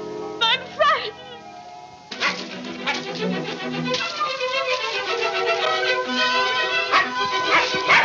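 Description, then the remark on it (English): A small dog gives a few high, whimpering yips and short barks near the start, then a dense, busy background of overlapping voices and sound takes over. “There's Toto. Where'd he come from?”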